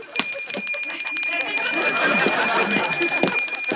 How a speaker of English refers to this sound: What's that ringing? Oh, that's just Al with his bell.